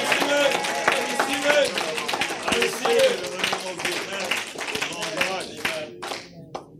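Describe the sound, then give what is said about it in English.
A church audience gives a clap offering in a fast, dense burst of many overlapping hands, loud and steady with shouting voices mixed in, before the clapping thins out and fades toward the end. “If somebody has received the promises, come on, shout and give the biggest clap offering to them.”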